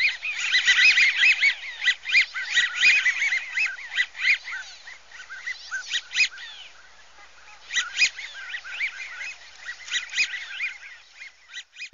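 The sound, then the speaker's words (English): A flock of wigeon calling continuously, with sharp whistles rising over soft gurgling chatter, many birds at once, busy, with no talking. “So the widgeon has to go sideways a little bit and make some whistling noises and some other gurgling noises with its tone.”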